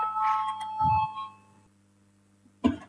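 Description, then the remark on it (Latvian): A parliament voting bell rings with a steady, bright electronic tone for about a second and a half before fading out, called before a vote on the legal bureau's fifth proposal. A single short knock follows after a pause. “Lūdzu, zvanu.”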